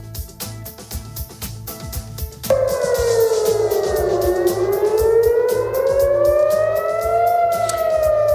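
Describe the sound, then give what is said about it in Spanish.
Air raid sirens wail across Tel Aviv, Israel, during a wave of Iranian attacks, rising and falling in long slow sweeps that come in loudly partway through, over a steady rhythmic background pulse. “Son las sirenas que suenan en este momento en Tel Aviv”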